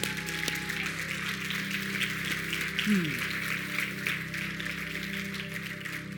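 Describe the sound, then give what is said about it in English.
An audience gives the Lord a round of applause, a dense, steady wash of clapping that lasts throughout, with sustained low organ-like tones humming underneath and a brief sliding note partway through. “Somebody give the Lord a round of applause.”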